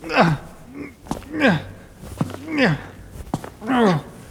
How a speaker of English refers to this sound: Oh, God, I can't see a thing. I'm walking now. Okay.